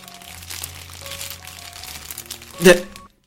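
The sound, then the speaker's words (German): An old paper bread-roll bag crinkles and rustles for a few seconds with a steady low hum beneath, ending in one sharp, louder crunch before cutting off. “Das ist doch keine Tüte mit Gummibärchen. Das ist eine alte Brötchentüte.”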